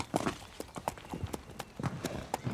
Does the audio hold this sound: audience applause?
no